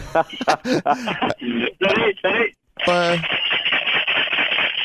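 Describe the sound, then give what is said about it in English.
After a brief spoken question, a quick, dense rattle of Tic Tac mints shaken in their plastic box runs steadily for a couple of seconds, bright and fairly loud. “No, it's Tic Tacs.”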